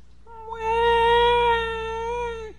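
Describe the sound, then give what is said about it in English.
A baby lets out one long, steady, high-pitched wail lasting about two seconds, bright and strained, dipping in pitch right at the end. No one speaks. “We hear a baby.”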